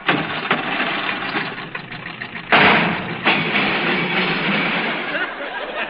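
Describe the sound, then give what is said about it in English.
A car engine sputters and strains in a steady, rough roar, with a sudden louder surge about halfway through and another lurch shortly after, as if the clutch is slipping. “I think the clutch is slipping.”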